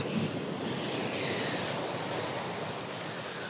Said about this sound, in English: I'm just pausing so you get a little bit more wave.